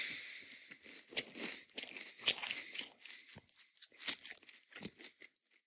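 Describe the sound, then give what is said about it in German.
Dry, brittle crunching as dry, slightly stale crispbread (Knäckebrot) is bitten and chewed during a recording, with sharp loud cracks early on followed by a run of smaller irregular crackles that fade out at the end. “Knäckebrot während einer laufenden Aufnahme essen.”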